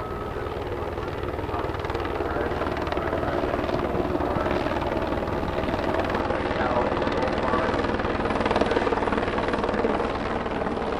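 St. Patrick Hospital's Lifelight medical helicopter swoops in from the north and lands at Loyola Field, its rotor chop a steady, loud throb with a high engine whine over a dense, rumbling low end, continuous throughout.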